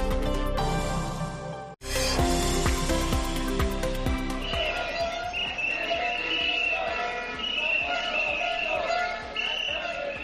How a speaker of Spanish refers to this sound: Este es el sonido de la manifestación de los trabajadores de Vitrasa que recorrió esta mañana las calles de Vigo.